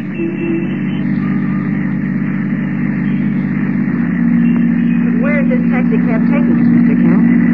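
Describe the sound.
A taxi engine runs with a steady, low droning hum that holds even throughout, growing slightly louder midway, while a muffled voice briefly sounds over it.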